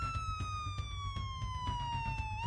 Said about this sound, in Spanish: Sobre las 5 menos cuarto, Arcán sale de la vivienda porque oye ruido y sirenas de la policía en el exterior del chalet.